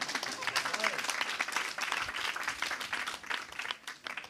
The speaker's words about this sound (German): Jetzt dürft ihr klatschen.